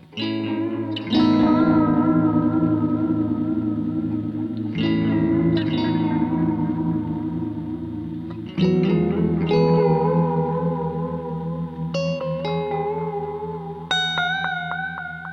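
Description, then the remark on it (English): An electric guitar played through an Echo Dream 2 echo pedal, producing feedback, with strummed chords ringing out in long, washy repeats that blur into a sustained, reverberant tone. It's loud, with no voices. “move on to a pedal. Y'all have heard me mention that I love several times, the Echo Dream 2.”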